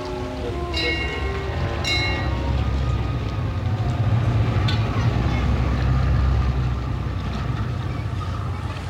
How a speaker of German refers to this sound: Wenige Minuten später wurden die Leinen losgemacht, die Planke eingezogen und die Wave Dancer fuhr mit minimaler Kraft aus dem Hafenbecken.